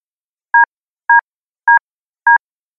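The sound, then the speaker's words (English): Four short electronic beeps in a steady, evenly spaced rhythm, each a bright two-tone chirp at a medium-high pitch, loud against otherwise silent background. “I started to shift my weight to the left in order to get up to locate the beeping noise”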